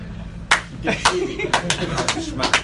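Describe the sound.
Several sharp hand claps land at uneven intervals, crisp and fairly loud, with murmuring voices and background chatter running underneath.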